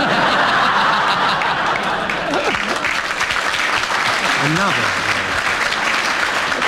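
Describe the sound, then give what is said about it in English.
Sustained applause from an audience, a dense, steady wash of clapping at constant loudness, with a few voices and bits of laughter rising through it. “I think the audience applause indicates that they're on your side and they appreciate that as an error of judgment”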